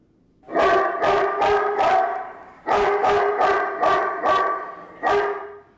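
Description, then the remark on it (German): A smart guard-dog deterrent device in a smart-home demo apartment, accidentally set off, plays dog barking: repeated rapid, loud bursts, two clusters of sharp barks separated by a brief pause, with a slightly electronic, played-back quality and no one speaking. “Oh, excuse, mein smarter Hund zur Abschreckung von unerwünschten Gästen ist aus Versehen losgegangen.”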